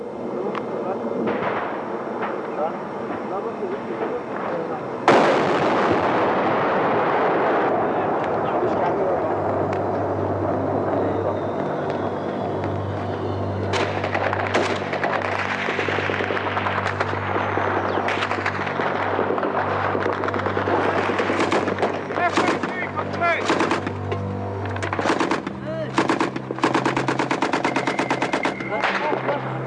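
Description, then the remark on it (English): Intense noise of a firefight in Afghanistan as British SAS and SBS special forces lead an attack and US Air Force personnel call in plane strikes. Rapid bursts of machine-gun fire, sharp gunshots and heavy booming artillery sound over a constant low rumble, growing denser and louder after the first few seconds. “They came up here on many occasions for a firefight, and the last time I was here was at dusk, and they had another fight and left.”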